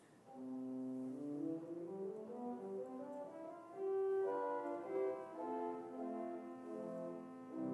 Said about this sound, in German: Wie passiert das technisch? Sie nehmen quasi zwar dieselbe Länge von einem 8 Fuß, aber die Pfeife ist sehr eng gebaut, sodass dadurch ein gewisser Strich entsteht, wenn eben der Wind durch die Pfeife angesprochen wird.